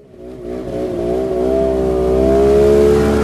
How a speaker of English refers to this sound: Snow machines zip by at the edge of town in Shishmaref, a tiny island community in the Chukchi Sea near the Bering Strait. They're how you get around in rural Alaska during the winter, on land and on ice.